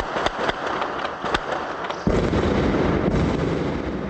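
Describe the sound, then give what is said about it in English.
Several sharp, loud bangs crack out in the first two seconds as an armored personnel carrier fires its main cannon and heavy machine guns at night at gunmen in an abandoned high-rise, then a dense, roaring rumble of sustained fire or blast noise fills the rest. “Last night, Force 17 brought out one of its few functioning armored personnel carriers and blasted away with its main cannon and heavy machine guns.”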